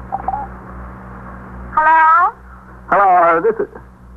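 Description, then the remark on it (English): A telephone line rings twice, each tone a short buzzy burst with a gap between, thin and filtered as if heard through a receiver over a low background hum. “They're ringing.”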